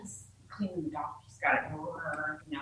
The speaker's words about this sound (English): Just our dog, huh?